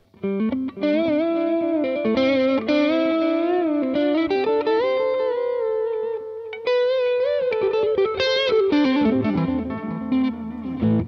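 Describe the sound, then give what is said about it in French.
An electric guitar, with distortion off and played in a guitarist's style, plays sustained, singing lead notes through the '80s digital delay setting, with repeats trailing behind each phrase. It's loud and continuous, with no talking over it. “On va mettre le 80 et on va entendre que le delay, même digital, est absolument démentiel.”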